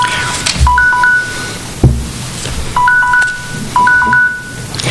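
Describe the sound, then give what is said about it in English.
An electronic timer goes off, repeating a short pattern of high, two-pitch beeps three times over a steady low rumble, with no voices. “I was trying to do a timer today, and I evidently chose the wrong one.”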